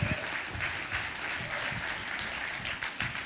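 An audience claps steadily for Christ, a dense wash of many hands at an even loudness throughout, with no voices standing out above it.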